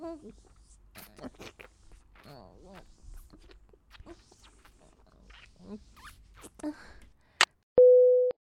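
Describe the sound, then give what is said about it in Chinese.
A person talks quietly, then a sharp click cuts in as the phone is accidentally touched and the call is hung up, and a loud, steady phone busy tone begins, holding a single flat pitch through the final second. “喂，老公，刚才不小心碰到电话，结果挂断了。”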